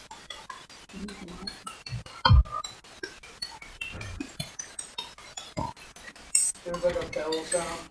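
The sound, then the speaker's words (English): Bright, bell-like clinks ring out in a rapid, irregular series of sharp taps, like glass or metal striking, continuing throughout with a heavier thump partway through. “There's like a bell sound.”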